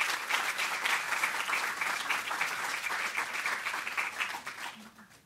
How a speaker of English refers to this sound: So welcome, Fritz. Please give a round of applause to Fritz Haig.